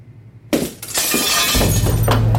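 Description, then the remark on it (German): A sudden crash as a stone is thrown through a window, followed by a bright, scattering cascade of glass shards tinkling and clattering for a couple of seconds over a low rumble. “Ich hau ihn dir durch dein Stubenfenster und dann sag doch mal, dass es nur ein Stein ist.”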